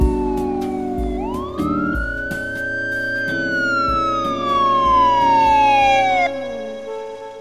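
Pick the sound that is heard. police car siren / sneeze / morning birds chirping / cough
police car siren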